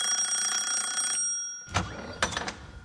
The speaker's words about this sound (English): … and …, I'd like you to be the salesman in this round, while … and … will be the owners of the house on whose doorbell salesman … and … are about to ring.